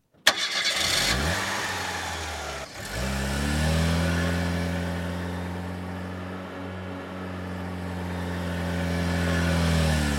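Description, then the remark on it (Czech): A car engine cranks and catches with a sharp burst, then revs and settles into a steady, loud rumble that rises again as the vehicle pulls away. No voices. “A teď ti ukážu, jak řídí auto geniální opilci.”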